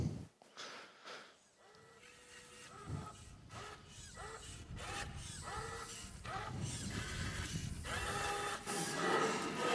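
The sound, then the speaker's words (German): A spray-can printer using transparent CMYK paint in cans prints test images, its motors whining and shuttling in short back-and-forth bursts with hissy, clicking mechanical noise, growing steadily louder toward the end. No one speaks. “Naja, erinnert schon an einen Drucker.”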